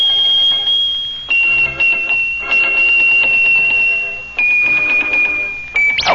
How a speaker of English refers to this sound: Look at that. Oh, how he shakes those bells.